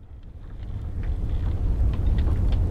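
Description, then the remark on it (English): A deep, steady engine rumble of an icebreaker trapped in a snowstorm throbs low and continuous, wrapped in a rushing, wind-like hiss with faint higher whistles, building slightly louder over a few seconds with no voices. “How about the thumming engine of an icebreaker trapped in a snowstorm?”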